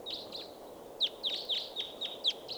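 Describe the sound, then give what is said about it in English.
Wild birds calling in a quick series of short, high chirps, about ten in under three seconds, some louder than others, over a steady low rush of background noise; no one speaks. “Bunch of birds here. A lot of birds flying in, and some stopping.”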